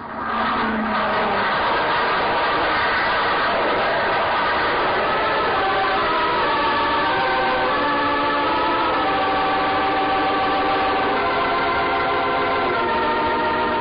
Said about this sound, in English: On the field until William Carnes landed the plane.